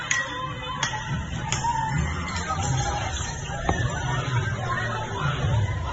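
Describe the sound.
A street fight among about 20 people in the early hours in the Franchi Roca area of Las Palmas de Gran Canaria: dense, agitated babble of many voices shouting over one another, with a few sharp knocks and brief high cries cutting through the steady commotion.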